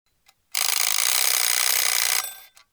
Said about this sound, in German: Es ist Montag, 6:45. Herr Schmidt macht den Wecker aus.